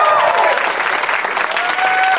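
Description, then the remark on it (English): A live crowd at a 10 p.m. Doug Loves Movies show at Flappers Comedy Club applauds and cheers loudly. It is a dense steady wash of clapping with a few whoops and whistles rising above it, sustained throughout without any talking. “Let's read to this fired up crowd.”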